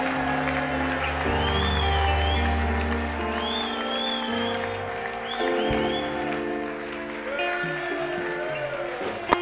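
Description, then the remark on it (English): An audience claps and cheers, shouting amen, over steady, sustained keyboard or organ chords, a dense wash of applause and raised voices that stays fairly loud for the whole stretch. “Can you clap and shout amen and amen?”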